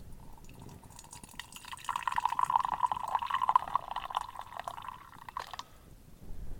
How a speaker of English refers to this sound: So the idea now is that we're going to pour a small amount of tea from the teapot into our teacup here. So go ahead and do that.